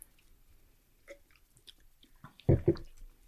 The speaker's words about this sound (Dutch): Je moet eigenlijk een wat grotere slok nemen en een flop naar binnen gooien. Achter in je mond. Dus achter in je mond proeven.